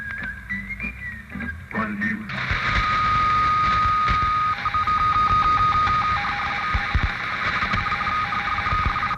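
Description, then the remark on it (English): A short whistled melody gives way to a steady, noisy hum, and then a telephone rings with a rapid, pulsing electronic trill that repeats for several seconds; the call is an inquiry from the Dutch consulate. “The phone rang.”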